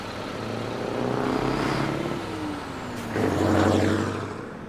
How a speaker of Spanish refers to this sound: Sigo fascinada con el hermoso baile de camiones que van y vienen.